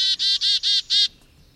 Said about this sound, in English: Let me play sound of one. You write about the chickadee, that chickadees have a complex language for communicating, not only to each other, but to every bird in the neighborhood about how safe or unsafe they feel from predators.